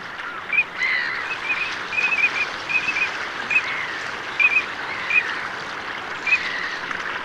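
Eurasian teal give short, high, whistled calls in scattered bursts of one or two notes, repeating throughout over a steady rushing background of water and wind.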